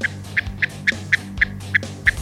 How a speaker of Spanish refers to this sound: Así suena el Chotacabras europeo.